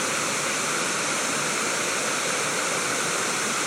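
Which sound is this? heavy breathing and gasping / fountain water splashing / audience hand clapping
fountain water splashing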